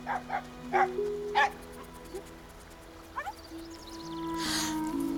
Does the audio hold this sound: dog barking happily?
yes